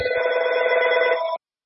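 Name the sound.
telephone ringing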